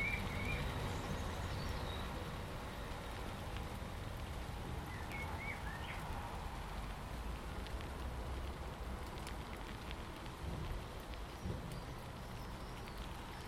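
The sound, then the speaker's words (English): Steady rain patters onto a hard surface, a dense continuous hiss of drops with no pauses, heard from under cover, while faint birdsong chirps now and then in the background. “Nice standing here though, undercover, listening to all that lovely rain. Just magical, isn't it, rain?”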